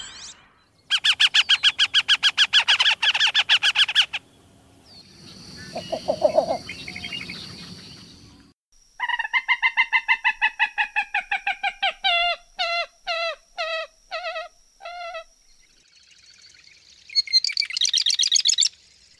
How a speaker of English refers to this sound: You heard a great blue heron, a wood duck, a northern harrier, formerly known as marsh hawk, a least bittern, a common moorhen, and a marsh wren.